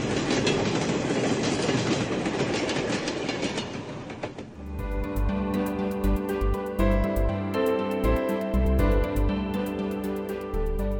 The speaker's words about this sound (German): Der Zug X9238 China Europe, beladen mit 50 Standardcontainern mit Gütern wie Maschinen und Geräten, Kühlschränken und Waren des täglichen Bedarfs, verlässt nun den Bahnhof in Richtung Taschkent, Usbekistan.